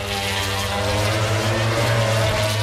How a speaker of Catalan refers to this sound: És una cursa de motos. Esclar, ha de ser maco, somiar que estàs allà en el circuit de Montmeló.